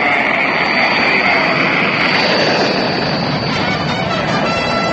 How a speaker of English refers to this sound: 15, 13, 12, 11, 10, 9. We have ignition sequence start. Engines on. 5, 4, 3, 2. There's the fire. Engines running. There it goes. It's moving.